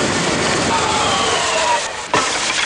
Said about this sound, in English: This is a great rocket engine you've built for me. It pushed so much air, it knocked that statue right over.